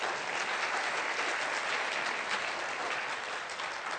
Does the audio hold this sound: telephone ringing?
no